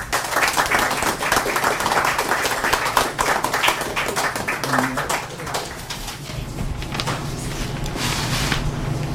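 A crowd breaks into steady applause, dense overlapping claps sustained at a fairly loud level for several seconds before easing slightly toward the end.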